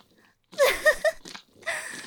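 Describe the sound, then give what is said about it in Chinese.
A person imitates a dog barking: a quick cluster of three strained, yelping barks, then a brief pause and a couple more rough bursts. “贱狗，你真的学狗叫了，还叫得这么起劲。”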